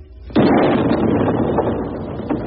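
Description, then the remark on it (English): A single heavy cannon blast, the 12 o'clock noon gun fired from the Citadel, booms out after a brief quiet, its broad roar rolling and lingering for a couple of seconds as it echoes away. “Best for the 12 o'clock gun.”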